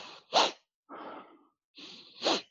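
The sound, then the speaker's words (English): Isolated breathing exercise through the nose: a forceful nasal sniff, a softer drawn breath, then another breath building into a sharp, loud sniff at the end, directed up into the head. No talking. “And then it finishes with a sharp sniff. And you direct that sniff up into the head.”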